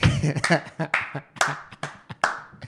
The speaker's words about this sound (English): Slow clap